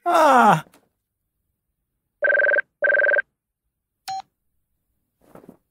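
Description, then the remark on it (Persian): A brief groan-like sweep, then two steady ringback-style telephone rings with a pause between, a short dial beep, and a faint rustle, as a phone call is placed and goes unanswered. No one speaks. “الان تماس میگیرم فلافل برای 20 بار در هفته بیاد درستش کنه.”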